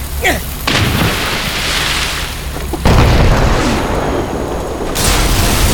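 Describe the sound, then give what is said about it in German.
A heavy cannon fired at a ship booms, then crashing, splintering wood and debris roar on as the cannonball tears a large hole in the vessel, with further loud bursts of breaking and rumbling layered on top, no voices. “Zusammen mit dem Hafenmeister brachten sie die Kanone in Stellung und Ernesto Porto entzündete das Schießpulver”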